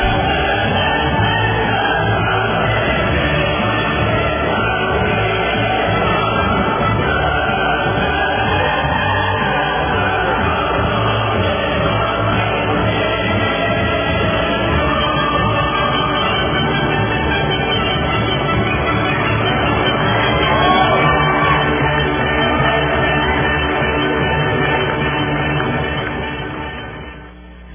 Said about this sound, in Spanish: Así que ahí están los aplausos y por supuesto el himno de la alegría del maestro Beethoven.